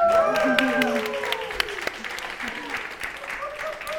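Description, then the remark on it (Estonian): A live audience in the café of the Fotografiska museum claps steadily for about four seconds during a live broadcast, a dense patter of hand claps, with cheerful shouts and whoops rising over it during the first second and a half. “Publik, öelge tere ju hei, midagi tehke häält, plaksutage!”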